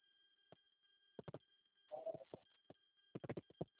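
signal or alarm, telephone busy signal

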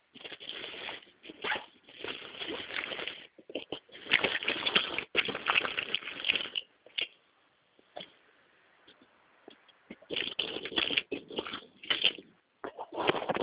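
household object, rummaging

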